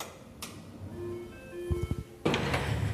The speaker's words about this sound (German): Ich drücke mal auf die Klingel. Ich glaube, das ist das Licht. Guck mal, da fängt es schon an.